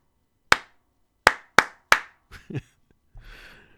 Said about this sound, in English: Will you use a special clap and respond?